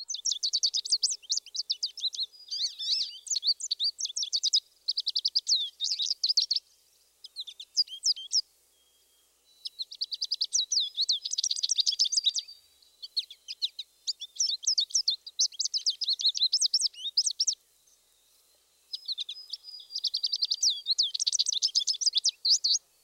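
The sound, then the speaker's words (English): High-pitched, lively songbird warbling of an American goldfinch, rapid twittering phrases with short pauses between bursts, clear, with no other sounds around it. “The American goldfinch, our last bird in this group, gives a high-pitched, lively song.”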